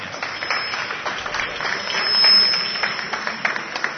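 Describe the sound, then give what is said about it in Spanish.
Steady audience applause fills all four seconds, a dense crackle of many hands clapping at once, swelling slightly in the middle before continuing at an even level. The applause is for the speakers at the end of a talk at the Euskal Encounter. “Muy interesante todo lo que nos habéis contado, y un aplauso para ellos.”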